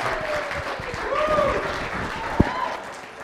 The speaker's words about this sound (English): And let's clap again for this merry couple as they head back on down.